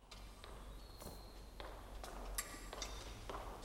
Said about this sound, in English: eyes widen a little as he hears footsteps approaching.